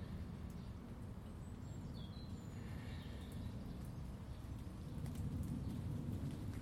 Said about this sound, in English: What it is a very, very light breeze when it gets up is just bringing down some more of the heavy droplets from the trees.